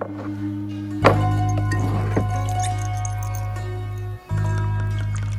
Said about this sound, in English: then pours her a drink in a shot glass.